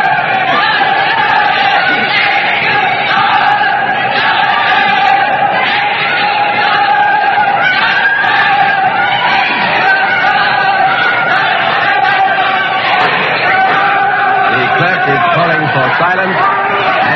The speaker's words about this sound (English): the Puritan guards, anti-royalists for men, have begun a chant of their own. The words are justice, execution, justice, execution. The shouts for and against the king are crashing here in this courtroom.